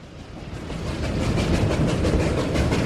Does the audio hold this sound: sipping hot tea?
no